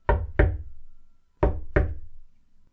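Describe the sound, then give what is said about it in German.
Four knocks on a wooden door in two pairs: two quick raps, a short pause, then two more. Each knock is sharp and resonant with a brief decay, fairly loud, no voices. “Da klopft es an die Tür.”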